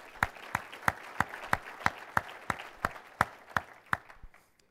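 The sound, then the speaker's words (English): Audience applause for the Kellogg company's global leadership team in Battle Creek, with a steady, rhythmic beat, about fourteen sharp claps standing out over a softer wash of clapping, then trailing off at the end. No one speaks. “So a quick round of applause for the leadership team and everything they do for our company.”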